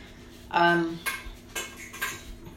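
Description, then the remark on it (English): Clinking of cutlery against dishes while dog food is prepared for the dog Lammy: a ringing scrape followed by several lighter taps and knocks, fairly clear, with faint background noise and no talking. “I'm just getting his food ready.”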